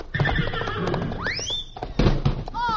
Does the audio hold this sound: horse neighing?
yes